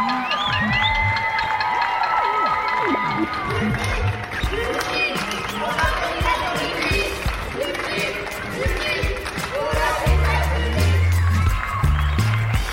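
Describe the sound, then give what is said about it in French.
Steady, loud applause mixed with cheering and scattered shouts from many people at their windows, applauding French healthcare workers in the nightly tribute, with whistle-like tones and some low thumping toward the end, continuing for the whole stretch. “C'est le rendez-vous qu'on s'est donné toutes et tous depuis une semaine pour applaudir les soignantes et les soignants français.”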